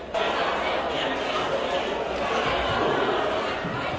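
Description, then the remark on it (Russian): A dense crowd clamors from deep within a city, many voices blending into a continuous wash of shouting and chatter that holds at a steady moderate level throughout. “Из глубины города слышны постепенно удаляющиеся крики.”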